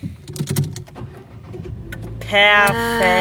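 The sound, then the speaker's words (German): A few soft clicks and rustles, then a car engine is started as a live test of whether the car still starts. It cranks with a whining, tonal roar that jumps loud and holds steady at a high idle. “Soll ich mal kurz machen, sollen wir mal einen Live-Test machen, ob das Auto noch ja. startet?”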